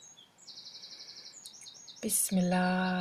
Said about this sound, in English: And the bird was just singing with us the invocation, the bird in your invocation.